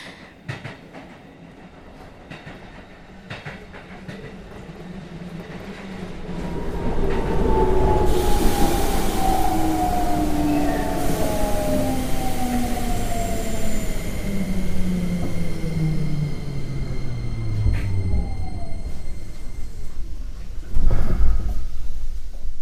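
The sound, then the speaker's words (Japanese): A train rumbles along, its wheels squealing and brakes whining in long descending tones as it slows, the noise growing louder midway and settling as it comes to a stop. No one speaks. “電車が止まる。”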